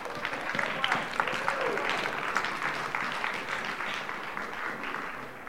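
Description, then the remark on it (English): An audience applauds steadily, a dense wash of many hands clapping at once that holds fairly loud for several seconds, with faint voices murmuring and calling out underneath. “Come on, somebody get a load of hand clap.”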